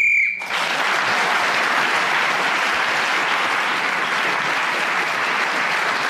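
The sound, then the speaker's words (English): A short, steady, high-pitched whistle blast ends Paul Merton's round in a panel game, quickly swallowed by loud, sustained applause from a crowd that carries on for several seconds. “Got in then, before the whistle went, gained an extra point for doing so, and I will now give you the final score.”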